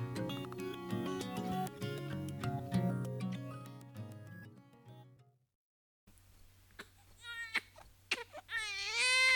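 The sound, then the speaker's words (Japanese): Gentle music fades into a short silence, then a neighbour's baby starts crying at night, heard through thin walls, with wavering, rising wails that grow louder and more insistent over a low background hum. “実家が貧乏で壁が薄くてしょっちゅう隣の家の赤ちゃんの夜泣きに苦しめられていた。”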